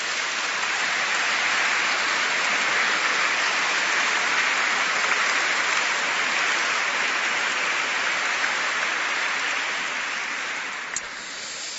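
Sustained applause from a crowd, given for a man's family, a dense, steady wash of many hands clapping at once for about ten seconds before it thins and fades out at the end.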